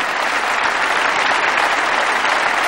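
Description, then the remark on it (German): Steady, dense applause from a large audience in Munich, greeting friends in the Netherlands, many hands clapping at once in a continuous loud wash of sound with no individual claps standing out and no talking. “Applaus aus München für euch in den Niederlanden.”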